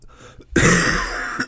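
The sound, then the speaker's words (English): A harsh, dry cough bursts out after a quiet moment, a single rasping hack followed by a brief smaller catch at the end, with no talking. “that's a dry cough.”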